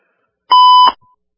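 A single short electronic beep signalling an incoming caller, a steady mid-pitched tone lasting about half a second with a sharp click at its start and end, loud and clear against silence.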